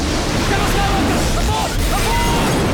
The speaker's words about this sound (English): A vulture droid crashes into the hangar and explodes.